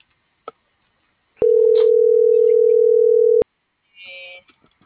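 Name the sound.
telephone call tone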